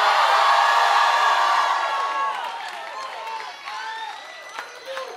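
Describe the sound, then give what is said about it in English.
A crowd at a sermon erupts in loud screaming and cheering when called to scream, a dense wall of voices that gradually thins as individual shouts and whoops stand out, with scattered clapping underneath. “Oh, somebody scream.”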